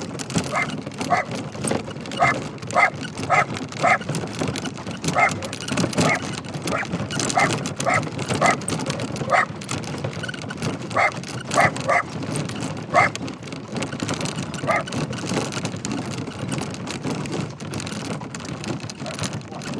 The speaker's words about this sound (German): Ach ja, einen Hund haben wir auch an Bord. Als Beifahrer.